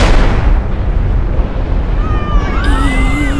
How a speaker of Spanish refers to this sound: ¿Y qué fue eso? ¡Sigan corriendo! ¡Sigan corriendo! ¡El sonido de esa explosión no me gustó para nada!